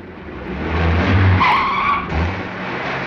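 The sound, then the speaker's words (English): A car skids off the road into a shallow pond with a loud tire squeal over a rough engine rumble, the screech peaking midway before the noisy roar continues for a moment afterward. “The car plunges into a shallow pond.”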